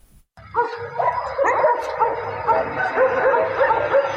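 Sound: stray dogs barking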